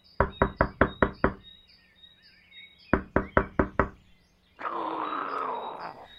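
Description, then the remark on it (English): Two rapid rounds of about six loud, sharp knocks on the wall or door of a well-built structure meant for keeping horses, separated by a short pause, with faint birds chirping behind, then a rough, rasping sound follows. “Let's knock and see if anyone is home.”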